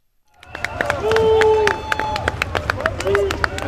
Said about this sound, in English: Okay. Clapping. That's Macron. He walked out into the neighborhoods that were damaged, and some people clapped for him, as you can hear, but there are a lot of boos and people calling for him to step down.